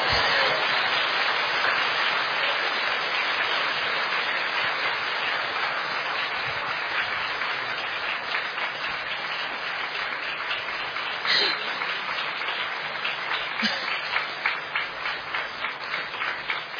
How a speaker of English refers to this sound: And if it's not too inconvenient, just stand up and put your hands together, and then we'd just like to show our respect in inviting Ajahn Brahm to the front. And, you know, actually, you can clap because it makes me feel like a star.